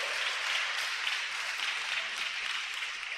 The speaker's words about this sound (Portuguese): Pode aplaudir o Senhor. A Ele a glória, a honra, o louvor.